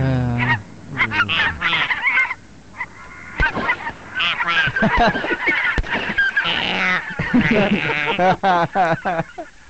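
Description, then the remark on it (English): Geese honk loudly and repeatedly, a dense, overlapping chorus of nasal, harsh calls that barely pauses for nearly ten seconds. “Ducks, geese, they all fly and make noise, right?”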